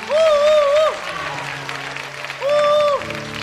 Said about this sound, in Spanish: ¡Y aplausos fuertes para Bumpy!